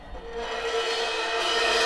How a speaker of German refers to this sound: 1 Uhr nachts. Die quietschende Tür geht auf.